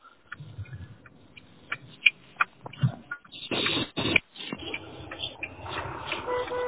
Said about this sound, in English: driving around with his indicator. Yeah, so I got my four ways on. Beep, beep, beep, beep, beep. It's amazing what sounds come through the Bluetooth better than the voice.